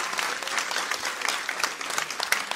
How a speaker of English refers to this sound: Everyone getting baptized in a half an hour, you know what? God will bless you for your obedience. Yes. How about you give them a big round of applause to show them that God will bless them?